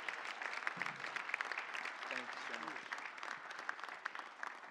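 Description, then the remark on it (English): An audience claps steadily in a warm, sustained round of applause welcoming a missionary speaker, dense and even throughout, with faint voices and murmurs mixed in beneath the clapping. “a warm round of applause and a special AFA welcome today.”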